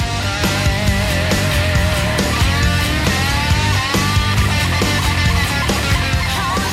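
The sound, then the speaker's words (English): A loud, distorted electric guitar riff with quick pull-off note runs, played over a full rock band with steady drums, continuous throughout, no talking. “That pull-off guitar.”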